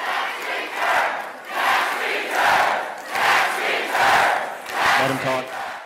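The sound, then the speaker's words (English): A large crowd at Senator Cotton's town hall meeting in a 2,000-seat Springdale venue chants in rhythmic bursts, "Do your job" being a popular cheer, roughly one swell every second, loud and continuous with many voices shouting together in unison over a steady roar. “Do your job was a popular cheer.”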